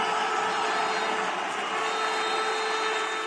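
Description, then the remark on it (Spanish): The crowd at the Francisco de la Era stadium roars at the final whistle of the Extremadura versus Compostela match, in which Extremadura won the Copa Federación: a dense, unbroken wall of cheering that holds at full loudness for about three seconds, with no individual voices standing out. “porque así rugía el Francisco de la Era ayer con el pitido final de ese partido entre Extremadura y Compostela.”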